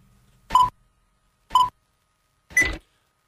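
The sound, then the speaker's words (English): Three short electronic beeps, played as the opening intro, sound about a second apart, clear and fairly loud, with the last one slightly harsher and longer. No one speaks. “Let's bring up the beep, beep, beep, the beginning.”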